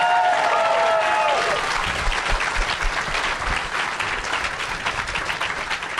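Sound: audience clapping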